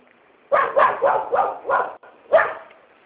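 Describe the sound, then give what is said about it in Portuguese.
A small female dog barks in a quick burst of five sharp, high yaps, pauses briefly, then lets out one more. Fairly loud, with no voices. “Minha filha tá aqui passando uns dias com esse cachorro, com essa cachorrinha.”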